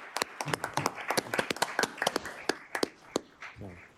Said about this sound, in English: And if you all just want to give a round of applause.